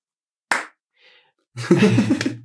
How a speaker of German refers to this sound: Der Phantasma Slam ist das, für das man dich so im Moment kennt in der Zauberszene, dass du das machst und wir feiern dich auch alle dafür. Ein Applaus.